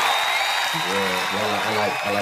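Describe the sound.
Steady, dense audience applause fills the whole clip, a bright crackling wash of clapping that stays loud throughout, with a man's voice talking over it for the latter part.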